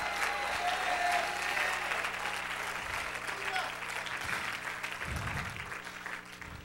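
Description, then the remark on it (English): An audience claps and cheers together, a dense, steady wash of applause with raised voices that holds at a fairly even loudness for several seconds, sounding full. “Clap your hands. Lift your voice.”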